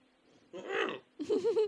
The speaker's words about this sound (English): I'm just over here choking on my own burps.